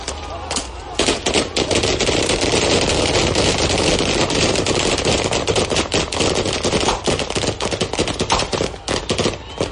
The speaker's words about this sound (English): A chant in the distance, the hum of police vans, and the yelling of instructions. And then, a hail of bullets.